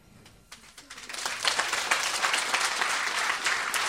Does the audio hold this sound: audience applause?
yes